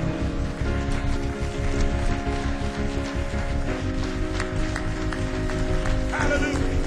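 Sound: audience clapping hands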